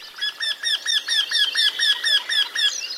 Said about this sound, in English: Today, the Eurasian wryneck seems harmless enough, although its scientific name, Jinx torquilla, honors its neck-twisting, bewitching reputation.